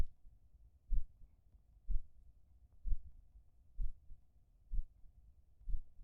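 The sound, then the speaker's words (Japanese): An older sister's slow, steady heartbeat, heard while hugged against her chest, thumps six times at an even pace, deep and muffled, with a faint low hum underneath and no voices. “ほら、耳を澄ませて。姉様の心臓の音、聞こえる？”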